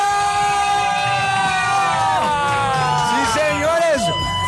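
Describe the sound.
A dense crowd yells, whoops and applauds in the Radioactiva tent at a Latin American rock festival, many voices overlapping in a steady, loud roar with rising cheers near the end, suggesting an excited audience.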